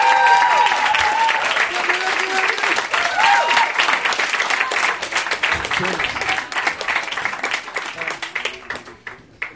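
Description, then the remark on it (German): Loud, sustained applause from an audience welcoming a guest, a dense wash of many hands clapping that gradually thins and fades out near the end, with some whoops and cheering voices mixed in. “Riesengroßen Applaus bitte.”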